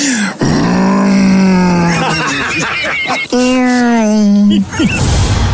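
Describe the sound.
A voice imitates car sounds as a nominee for Best Achievement in Sound on the Roz and Mocha Show, with loud, buzzing, engine-like hums: one long tone that climbs in pitch like revving, a short break, then another steady drone that cuts off abruptly.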